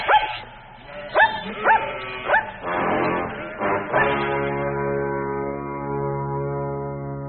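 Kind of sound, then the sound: animal, dog barking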